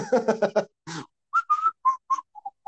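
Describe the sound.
Someone whistles a short, bright melody, about eight clear notes in a bouncy rhythm, after a brief burst of rough vocal sound at the start: the opening tune of Disney's Robin Hood.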